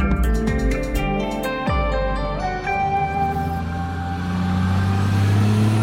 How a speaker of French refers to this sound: Attention, il y a un camion qui passe. Nous sommes sur une route du Colorado aux États-Unis où s'est produit un accident dramatique il y a 2 ans.